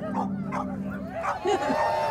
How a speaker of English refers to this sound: And for 5 minutes, these dogs barked and howled and yelled. And I was like, I thought, I can die right now. So this is just like the most beautiful sound of like free sound.